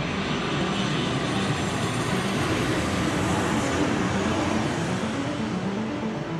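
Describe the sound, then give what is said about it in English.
Airplane engines in flight give off a steady, unbroken roar with a broad hissing rumble, holding an even loudness throughout with no voices over it. “He jumped on a plane.”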